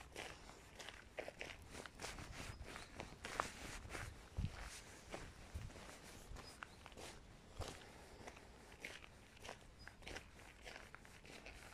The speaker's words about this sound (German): Vielleicht läufst du gerade wie ich ein paar Schritte.